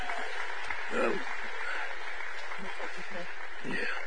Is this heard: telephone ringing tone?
no